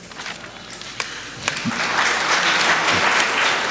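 An audience breaks into applause: scattered claps at first, swelling into a steady, dense wash of clapping that stays loud to the end, with no voices over it.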